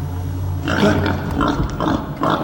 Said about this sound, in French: mon cochon, mais qu'est-ce que tu fais dans cette voiture?